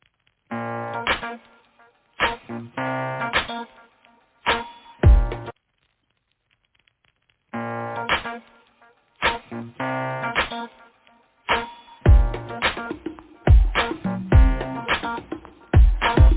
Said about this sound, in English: why don't we go ahead and play one of her songs so you can get a little feel for her musical voice?